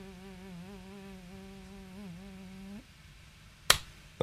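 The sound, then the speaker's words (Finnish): A voice on the Yle X radio show imitates a buzzing fly, made with the lips held closed while forcing sound inward: a steady, low closed-lip hum that wavers slightly for about three seconds, then stops; two sharp snaps or clicks follow. “Kärpänen kuulostaa tältä.”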